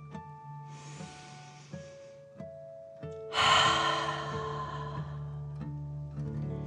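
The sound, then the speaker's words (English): A long, airy breath drawn in, a short pause, then a louder, drawn-out exhale that slowly fades during a guided muscle-relaxation exercise, all over a soft, steady musical drone. “Remember to breathe in like a dragon and out slowly.”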